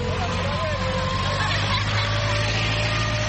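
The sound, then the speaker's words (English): A heavy construction machine, not a truck, finishing work on the Gatuna one-stop border post between Rwanda and Uganda drones steadily, its low rumble constant throughout, with a faint murmur of voices in the background. “That's not a heavy truck. It is a machine which is finalizing the construction.”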